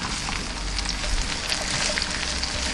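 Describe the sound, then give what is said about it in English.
A steady, dense sizzle of food frying in a pan, with a constant hiss and scattered tiny pops and crackles, fairly even in loudness throughout and with no voices. “And look at that lovely golden brown color. That's frying.”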